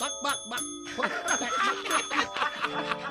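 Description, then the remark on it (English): Several small bells worn by roosters ring and jingle continuously as the roosters chase pullets, bright overlapping tones layered over a busy, clattering background, steady throughout. “Well, the other roosters were chasing pullets. Bells are ringing.”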